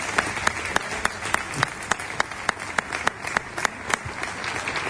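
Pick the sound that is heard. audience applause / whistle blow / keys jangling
audience applause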